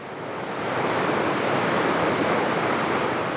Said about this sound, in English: It's less than 300 feet across. We're standing right by the river. It looks shallow.